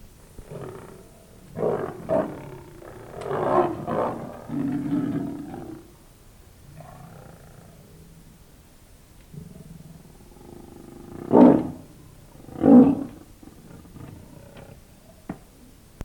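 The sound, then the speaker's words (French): A lion roars in a series of deep, rumbling bursts, the first several close together and heavy, then two sharper, louder roars near the end with low grunting breaths between. “En longeant cette partie de l'enceinte, les garçons entendirent le rugissement d'un lion.”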